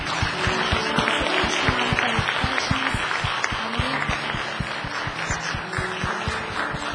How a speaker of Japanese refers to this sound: 私たちの主に感謝の拍手を持って終わりたいと思います。